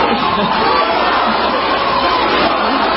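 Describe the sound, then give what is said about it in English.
A large crowd of thousands at a news conference cheers and yells "We love you" to a lawyer in a dense, unbroken roar that stays loud and steady for about three seconds, with no single voice standing out. “Listen to that. And yells, "We love you," to a lawyer.”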